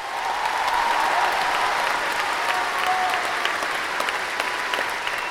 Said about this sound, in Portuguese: O nosso colega José do Patrocínio, assim como uma grande comissão de senhoras e as escravas que iam receber de Nadina o batismo da liberdade, foram recebidos com uma salva de palmas.